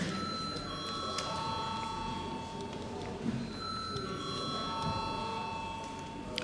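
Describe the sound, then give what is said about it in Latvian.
The Latvian parliament's electric voting call bell rings steadily for several seconds before a vote on a draft decision. It is a sustained, bright metallic tone with a few shifting pitches over a low background rumble. “Lūdzu zvanu.”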